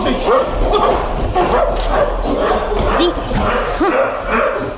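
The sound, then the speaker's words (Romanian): A dog barks and yips repeatedly in quick, agitated bursts, loud, as it lunges at a man, with a steady murmur of voices and background noise underneath. “îl cunoști cumva pe câinele ăsta?”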